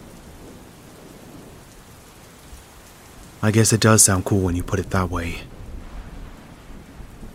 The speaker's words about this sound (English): Why the hell are you so scared of storms?